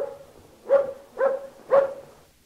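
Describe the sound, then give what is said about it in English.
A person imitates one dog, giving three short, evenly spaced barks in a row, fairly loud, with no other talking. “Well, my first imitation is one dog.”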